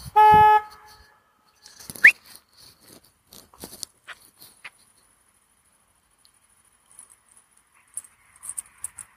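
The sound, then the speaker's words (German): A single short, loud car horn blast sounds right at the start, followed by quiet scattered patters and small clicks with no talking. “Weiß nicht, vielleicht spielt sich hier gleich ein Drama ab, weil ich dem Schwachkopf erzählen muss, dass eine Hupe für Gefahrensituationen da sind und nicht um andere Leute zu nerven.”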